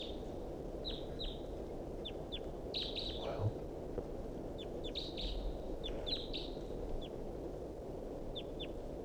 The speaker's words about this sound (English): Still pointing at the wild bird here. He's calling. And decoys are calling on the side. Wild bird's calling rather weakly.